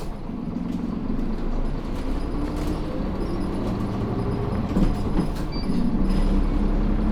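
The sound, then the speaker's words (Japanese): A heavy bus engine rumbles steadily, a low continuous drone with faint rattles and hum, as the bus pulls away after a departure announcement and drives on toward its next stop, Ōgawara. “動きますのでご注意ください。発車します。”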